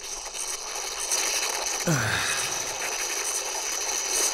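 Granary weevil larvae in the third or fourth larval stage, two weeks older than young larvae, chew inside a grain kernel almost without pause, making a dense, nonstop stream of dry crackling clicks at steady loudness. A single brief falling tone sweeps through about halfway.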